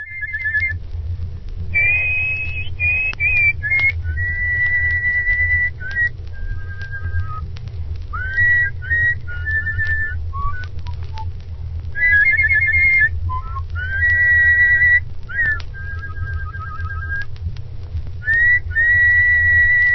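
A person whistles a bluesy melody, with sustained notes, bent pitches and slides, phrased in short repeated lines over a low, steady background rumble like an old recording.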